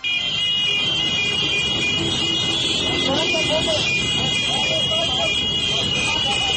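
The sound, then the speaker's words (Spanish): A dense street scene of many car horns from a caravan of cars blaring continuously together over rumbling traffic, loud, with indistinct voices mixed into the din. The celebrating caravan is blocking the road so no cars can pass. “Así sonaba la llamada caravana ese día.”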